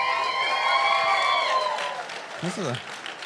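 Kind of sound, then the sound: crowd, crowd cheering and applauding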